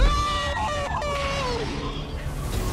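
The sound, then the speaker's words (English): Wavering, drawn-out screams and groans overlap in a haunted attraction, several voices wailing at once at a steady, fairly loud level throughout. “Moving into the field of screams.”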